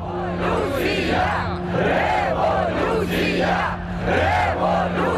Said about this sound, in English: He was in a crowd of hundreds of students protesting against the decision of the president, Viktor Yanukovych, to renege on a special trade deal with the European Union. There were speeches going on, there was singing, there were flags waving.